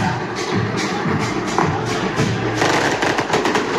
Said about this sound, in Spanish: Y ahí estamos viendo bengalas que se lanzan, mientras de fondo hay una verdadera... No, ahí se logra ver. Una verdadera barra brava, ¿no? Y esto es lo fuego artificial.